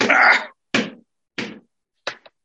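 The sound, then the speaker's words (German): Someone taps a numb foot: a loud first slap, then two evenly spaced dull pats and a quick double tap at the end, with no talking. “Muss ich mal da klopfen.”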